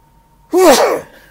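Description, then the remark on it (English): A single sharp, loud sneeze bursts out after a moment of near silence, with a quick breathy onset and a voiced trailing edge. “I'm going to sneeze, for one thing.”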